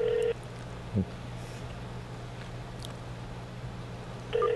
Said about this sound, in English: Phone. You hear it, right?